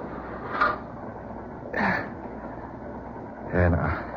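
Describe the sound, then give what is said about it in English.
A steady, low rumbling drone of a moving freight train boxcar with an open door, with three short, louder bursts rising over the continuous churn at roughly even intervals. “Boxcar, open door. I made it just in time.”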